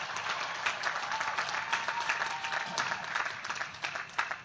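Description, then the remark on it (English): A large audience claps steadily for the parents, grandparents, family and friends of a graduating class, a dense wash of many hands applauding at once that holds without a break for the whole stretch, moderately loud and heard alone without talking. “Let's give them a big round of applause as well.”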